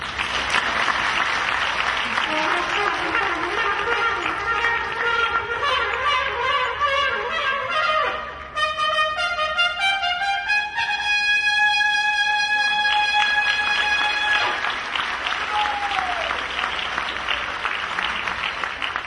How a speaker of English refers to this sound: Now last night, we had everyone give a second round of applause if they wanted more of that. So let's see if we can encourage him again.